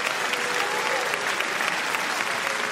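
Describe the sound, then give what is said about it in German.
Sustained applause from a packed audience at the Rome State Opera after the Prisoners' Chorus "Va Pensiero" from Giuseppe Verdi's opera Nabucco, a dense, steady wash of countless hands clapping at once, loud and unbroken, with no voices standing out. “Lang anhaltender Applaus nach dem Gefangenenchor Va Pensiero aus Giuseppe Verdis Oper Nabucco.”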